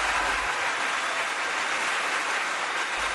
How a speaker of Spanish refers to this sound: Y al final, por supuesto, una enorme ovación.